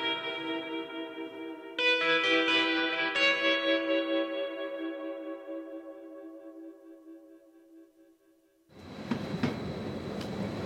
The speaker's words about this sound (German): Der Zug ruckelt durch die Landschaft zwischen Chiasso und Lugano. Man könnte seekrank werden, wenn man die langen Gänge vorläuft und zusammen mit den Kurven ständig auf die eine und dann wieder auf die andere Seite rührt.